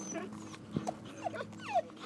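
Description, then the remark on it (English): A guide dog whimpers in three or four short, high, wavering whines spaced about half a second apart, over a low steady background hum. “And this audio boo is us being cruel to our guide dogs.”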